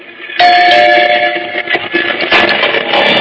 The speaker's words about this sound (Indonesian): bel rumah berbunyi. Pasti keluargaku sudah pulang. Aku pun bergegas turun ke bawah untuk membukakan pintu. Bel terus saja berbunyi.